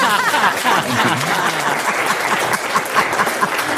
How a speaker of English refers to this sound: Another big round of applause for that, please.